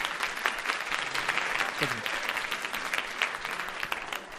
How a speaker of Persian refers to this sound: تشویق کنید خودتون رو، تشویق کنید خودتون.